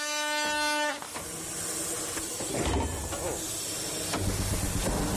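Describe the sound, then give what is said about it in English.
A 100-year-old steam engine hisses and puffs steadily on its maiden run, tested for pulling power in a race, with occasional louder chuffs, after a brief high whistle-like tone at the very start. “But will their 100-year-old engine puff its way into the lead, or will they run out of steam?”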